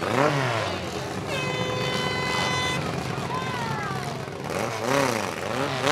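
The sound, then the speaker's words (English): Car engines rev loudly and continuously at a demolition derby at the Franklin County Fair in Kansas, pitches climbing and sliding down as they throttle up and ease off, with a busy, crowded din and voices mixed underneath. “Hey, welcome everybody to the, I think this is a demolition derby, isn't it?”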